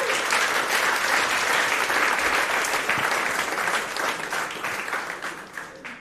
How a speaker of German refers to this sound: Deswegen Applaus